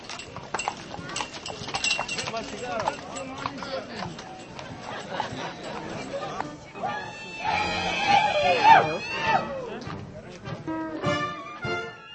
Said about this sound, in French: Les chevaux qui passent en tête sont ornés d'un drapeau et portent une grappe de raisin. Ils sont suivis de jeunes filles et garçons en costume populaire.